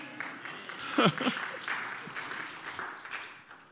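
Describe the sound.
Scattered audience applause patters along steadily at a moderate level, with a brief voice rising over it about a second in and murmured talk continuing underneath.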